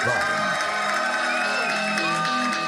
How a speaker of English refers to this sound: And now, give a warm round of applause to my friend and yours